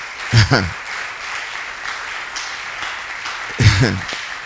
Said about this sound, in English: Can we clap to the glory of God?